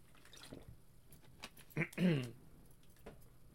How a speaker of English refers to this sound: Oh, sorry. Gotta get water after that one.